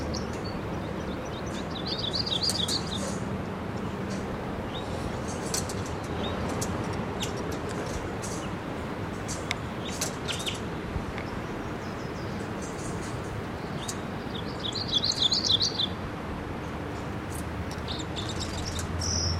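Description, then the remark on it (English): Red crossbill chittering calls from a red male in a Ponderosa pine, above the mist, about 50 feet up, at a camp: two bursts of high, rapid twittering notes, with a few scattered faint chips between, over a steady rushing background noise. “I hear it chittering in the camp.”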